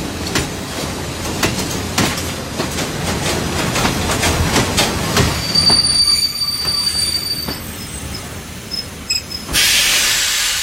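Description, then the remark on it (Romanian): Railway wagons loaded with people, their doors bolted shut, rumble steadily along the track with loud, rhythmic clacks of the wheels, then thin high-pitched squeals of metal wheels on rail emerge, ending in a sharp burst of hiss. “Ne-au suit în vagoane, au zăvorât ușile și am rămas în întuneric.”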